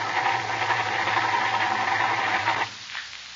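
A car with a wet engine and a running-down battery cranks with a steady, rattling whir for about two and a half seconds, loud, then cuts off abruptly without catching.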